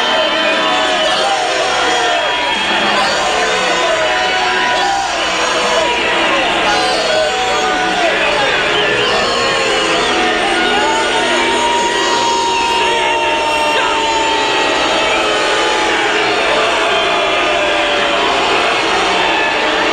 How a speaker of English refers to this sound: Let's go back and listen to what happened July 31st here in Tampa as reporters were getting ready for a Trump rally. And this is what the crowd was yelling at the reporters in the reporters' holding pen at the state fairgrounds in Tampa.